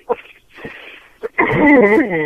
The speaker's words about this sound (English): And you're coughing, and that just I know. I can't breathe. You've got me laughing so hard.